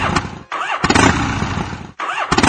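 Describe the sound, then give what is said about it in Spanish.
A small scooter engine cranks repeatedly in three sputtering bursts, each attempt catching briefly then dying out with short gaps between, loud; the scooter fails to start. “No me digas que no arrancó. La mierda de motoneta no arrancó.”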